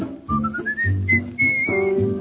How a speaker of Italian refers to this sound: Vado il fischio, voglio fischiettare, state ad ascoltare.